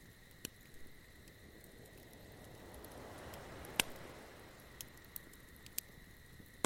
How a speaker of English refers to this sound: Listening to the sound of the crackling fire.